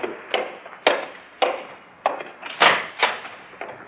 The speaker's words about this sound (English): And then one night, when I was nearly through with my work, there was a knock on the door. Well, who's that?